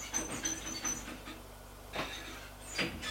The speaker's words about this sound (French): Arrivé à son étage, elle ouvre la porte de son appartement.